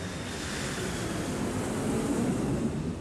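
A steady, rushing roar of an airplane landing, broad and whooshing like wind, holding at an even loudness for a few seconds with no voices.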